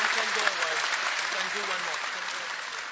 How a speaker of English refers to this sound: Alléluia. Alléluia. I think we give the Lord a clap, shall we? Je crois qu'on peut applaudir le Seigneur.